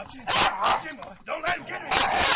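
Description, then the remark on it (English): A dog barking sound effect: a dog barks repeatedly in a run of harsh, fairly loud bursts with short gaps between them. The sound is muffled and thin, lacking any high treble. “I'm letting the dog loose and you gone.”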